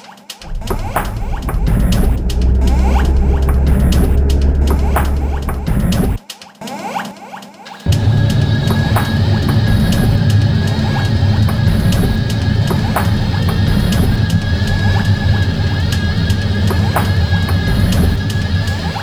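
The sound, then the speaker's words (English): A steady, loud whirring rush of refrigerator fans spinning at high speed, with a thin tonal whine riding on top; a deep low rumble drops out briefly before the constant airflow resumes. “When the doors are opened frequently, the groceries are loaded, or when the refrigerator is first plugged in, you will hear fans running at a high speed.”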